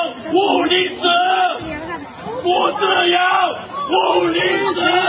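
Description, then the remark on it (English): A man shouts the slogan "give me liberty or give me death" and a crowd chants along with him, the loud voiced phrases repeating in a steady rhythm about three times over a noisy background of many voices. “And you've got people actually chanting along with him, okay, which is normally not the case.”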